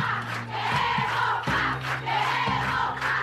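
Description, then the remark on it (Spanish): A large crowd of visitors outside a prison claps and shouts together, shouting "we want bread", a dense, steady roar of voices and applause with rhythmic surges, filling the whole scene without any single clear speaker. “¿Quiénes son los que están aplaudiendo? ¿La visita? Sí, la visita.”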